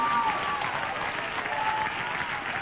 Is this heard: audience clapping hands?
yes